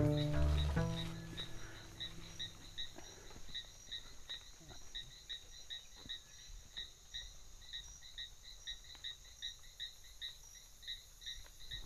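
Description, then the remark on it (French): Insects chirp steadily in the forest at Taringué after sunset as night falls, near cages of macaws and parrots: rapid, evenly pulsed high-pitched trills repeat throughout, layered over a soft background hiss, with a brief low tonal sound at the very start. “Voilà quelques bruits de la forêt à Taringué, alors que le soleil s'est couché et que la nuit arrive.”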